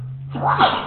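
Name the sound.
person sneezing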